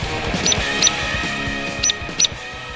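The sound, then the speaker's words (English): A hairy woodpecker gives four sharp, high-pitched 'peek' calls, loud and clipped, arriving in two spaced pairs over a low, steady background rumble. “Loud and hairy, like a heavy metal band.”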